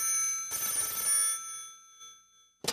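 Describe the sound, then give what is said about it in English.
An old telephone bell rings once at night in a bright, rattling metallic trill that rings on and fades out, followed by a brief click, as a man named Peterson gets a phone call. No one speaks. “The following night, Peterson got a phone call.”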